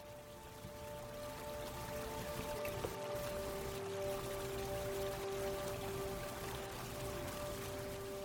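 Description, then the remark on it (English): A steady, full rush of water from a wide, sapphire-blue river churns and splashes continuously as it tumbles over large boulders, with a faint constant hum running underneath and no voices. “Water tumbles over large boulders.”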